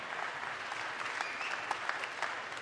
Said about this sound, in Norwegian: Tusen tack. En stor applaus för dig.